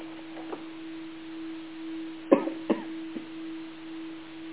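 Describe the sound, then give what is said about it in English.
A steady electronic sine tone drones on unbroken at a low-mid pitch, with a fainter lower tone beneath it and a few brief soft knocks partway through. “You are breaking through the densities of the third dimension as you hear these tones, and your personal energy fields are becoming lighter.”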